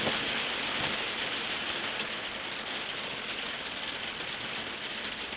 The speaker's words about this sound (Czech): To je ten déšť. No, asi budu muset zesilovat hlas.